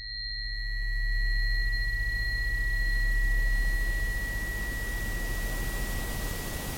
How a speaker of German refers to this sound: Rauschen ist ein permanentes Tönen, aber eben in allen Frequenzspektren zur gleichen Zeit. Und auch das erfährt man eigentlich erst, wenn man dann das Rauschen mal hörbar macht. Ich glaube, das hier dürfte das weiße Rauschen sein.